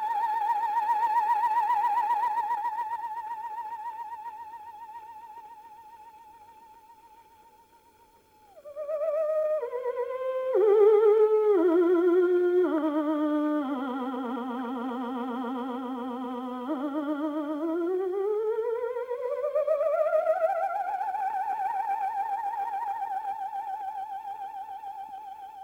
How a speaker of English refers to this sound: The scintillating tones of the theremin.